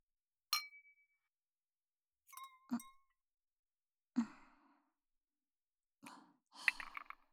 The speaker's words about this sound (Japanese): 座ったし、とりあえず乾杯して大丈夫？それじゃあ、乾杯。